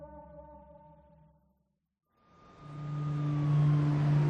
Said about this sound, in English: Traffic flows through the Bronx in the daytime.